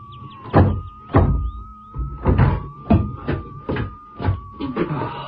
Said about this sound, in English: Door must have got a bit swollen.